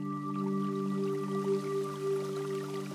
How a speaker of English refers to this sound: It's on stilts, and there's this water feed trough that goes to it. You know, it makes this amazing sound, and it's a building that kind of feels alive